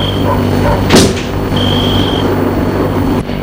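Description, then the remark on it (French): The rear door of a chauffeur-driven car unlatches and swings open with a sharp click and thud over a steady low engine hum, while a thin high chime sounds twice, followed by a second soft knock. “La portière arrière de la voiture s'est ouverte.”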